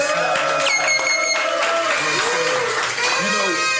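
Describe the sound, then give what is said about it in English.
A crowd cheers loudly and steadily, with high whoops and shouts rising over a dense wash of applause, keeping an even intensity for the whole few seconds. “Let's make some noise”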